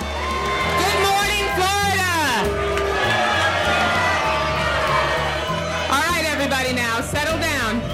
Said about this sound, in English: That leak forced the resignation of then-chairwoman Debbie Wasserman Schultz. The Florida representative was even booed during a breakfast for her state's delegation.